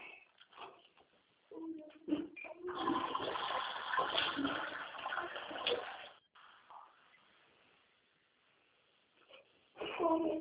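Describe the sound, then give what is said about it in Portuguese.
Water splashes out steadily for a few seconds as it is poured out of a baby bottle, a rushing, pouring sound, with brief voices and small noises before and after. “Joga essa água da mamadeira fora”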